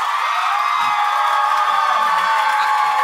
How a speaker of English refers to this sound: I mean, my God. See, it's overwhelming. It's overwhelming. In a jury selection, I would ask everybody now to leave. Everybody that applauded gets to go.